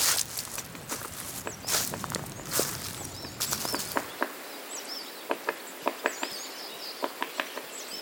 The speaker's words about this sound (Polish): Jestem w lesie bukowym dzisiaj, tutaj w okolicy Dzięcioły, gdzie się przemieszczają sikorki, pełzacze, gdzieś tam w oddali słychać.